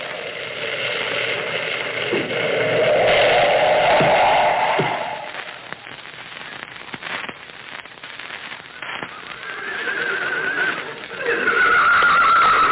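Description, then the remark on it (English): Moccasin's horse, Rainbow, whinnies loudly in long, wavering cries, once early and again near the end, with a few sharp hoof knocks in between, having stopped at the base of the mountain; no talking. “Moccasin's horse, Rainbow, stopped at this spot.”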